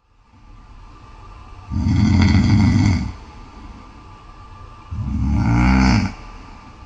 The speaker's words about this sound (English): He was once proud of the fact that he didn't snore, but now it's at the point where he's recording his snoring for strangers on a podcast. Needless to say, he needs help.